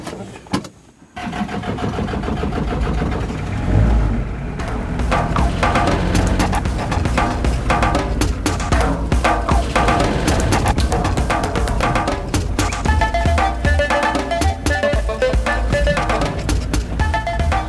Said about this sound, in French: Ça, c'est un camion qui transporte des minerais d'habitude.